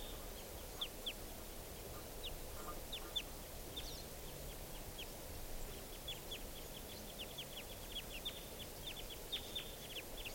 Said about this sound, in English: Wild birds are calling really rapidly now. I think they're coming down.